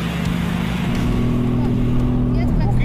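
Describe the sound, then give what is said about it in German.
A car engine drones steadily during driving instruction on a track, its pitch stepping upward as it accelerates through a curve, with voices faintly audible over the continuous motor noise. “Also, in der Kurve kannst du schon beschleunigen, aber immer wenn dann nachher gerade kommt, ist es besser.”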